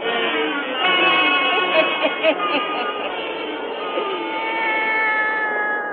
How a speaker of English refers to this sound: Now let us join old Nancy, Witch of Salem, and Satan, her wise black cat.